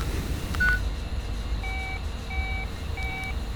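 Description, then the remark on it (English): A telephone number being dialed: a short tone, then three evenly spaced, identical electronic beeps, clear, over a steady low rumble with no one speaking. “That phone number is our only clue.”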